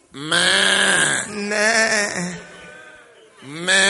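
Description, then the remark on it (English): A person bleats like a goat that came into an operating theater, three drawn-out, wavering calls, loud, with short gaps between them and no other talking. “A goat has come into the theater.”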